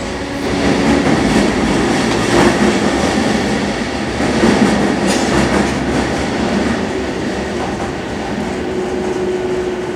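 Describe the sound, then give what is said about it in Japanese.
A Tokyo Metro Chiyoda Line subway train bound for Matsudo, with Hibiya as the next stop, rumbles steadily along the rails, with a loud, continuous roar and faint rhythmic clatter of wheels over track joints, heard from inside the car. “東京メトロ、千代田線をご利用いただきまして、ありがとうございます。この列車は、大手町、西日本、北千住方面、JR 常磐線、松戸行きです。”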